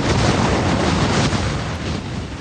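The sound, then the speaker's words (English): Winds of Hurricane Ida, a Category 4 storm, roar steadily as it comes ashore in New Orleans, Louisiana, in August 2021, a loud, dense rumble that never lets up, buffeting and gusting in heavy waves with no voices present. “The sound of Ida coming ashore in New Orleans.”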